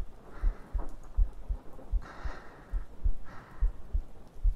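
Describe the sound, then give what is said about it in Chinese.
A muffled heartbeat thumps steadily in low, paired beats, with soft breathy swells of noise rising and fading a few times behind it. No one speaks. “陛下不怕，这雷声还没有我心跳声大呢。”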